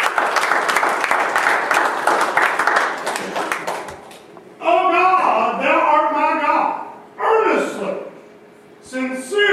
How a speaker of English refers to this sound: Everybody with me? Give a long round of applause.